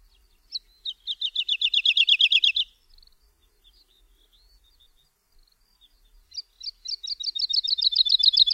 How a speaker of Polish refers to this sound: Niektórzy porównują piosenkę skowronka borowego do jodłowania tyrolskich górali.